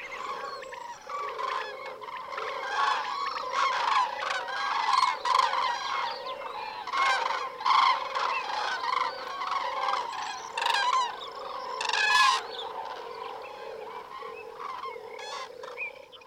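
A large flock of migratory birds calls continuously in Caballeros Park, a dense chorus of overlapping honks and cackles with louder bursts rising above a steady background din, no voices present.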